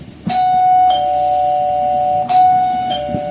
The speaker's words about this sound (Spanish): Y suena el timbre de Papa John's. Y cuando suena el timbre de Papa John's, pues vienen las pizzas de Papa John's.